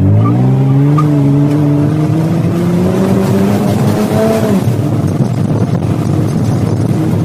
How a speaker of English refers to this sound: and now you're going to do your best to terrify me as we race up Test Hill. Of course. Go for it! We're driving round to the base of Test Hill and getting set for a fast start up this steep hill. Here we go.